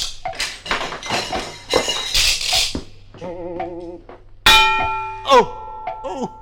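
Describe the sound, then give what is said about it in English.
A single loud metallic clang as a swinging grandfather's clock pendulum hits someone on the head rings out with bright sustained tones and slowly fades. Talking comes before it, and a short wavering vocal groan follows. “Oh, say, watch out for that swinging pendulum. We have to go through between ticks. It's very annoying if it hits you on the head.”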